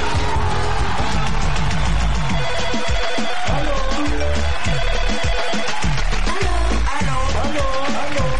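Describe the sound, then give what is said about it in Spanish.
A loud, repeating WhatsApp call ringtone plays the whole time, its bright melodic pattern cycling over a busy, cluttered background with some faint voices. “Aló, tenemos WhatsApp.”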